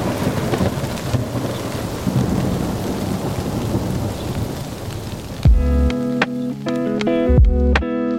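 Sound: thunderstorm with rain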